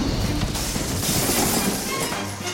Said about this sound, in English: We're not too high over the water. If I can just get up enough steam to batter my way through the window behind my protective shield.